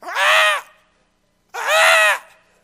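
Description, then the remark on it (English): Two loud, harsh bird squawks, each about half a second long, separated by a short pause. The raspy, crow-like calls are prominent, with no talking. “And it's them trying to squawk and criticize and fault find.”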